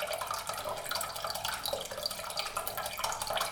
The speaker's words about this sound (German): Und jetzt kommt der Essig oben drauf. Also 3 Viertel Wasser, 1 Viertel Essig.